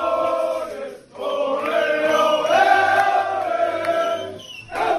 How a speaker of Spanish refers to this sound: Este es el sonido, este es el sonido del vestuario del Barça en el Wizzing Center, celebrando el título.